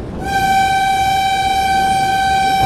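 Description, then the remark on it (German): A loud, steady train horn blares continuously as a single sustained tone over the low rumble of the moving train, sounded as a whistle signal at a whistle board before a small level crossing that is not technically secured; no one speaks. “Das war jetzt dieses Pfeifsignal.”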